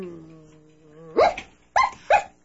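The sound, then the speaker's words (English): A dog on a bus, with a rope around its neck, lets out a steady, drawn-out whine, then barks three times in quick succession, loud, with no talking. “look at that dog. He doesn't bite.”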